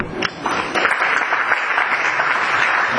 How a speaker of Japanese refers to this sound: 皆さん、さ、次のお祝いの会に盛大な拍手でお祝いしてください。